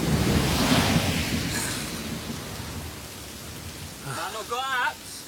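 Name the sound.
heavy rain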